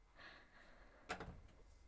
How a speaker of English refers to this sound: I'm gonna shut the door.